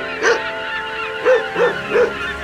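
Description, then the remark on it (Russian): A dog named Altai, on a beach by the sea, gives four short, sharp, high-pitched barks to attract the attention of a man walking away: one, a pause, then three in quicker succession over a steady low hum. “Алтай, ну-ка привлеки его внимание.”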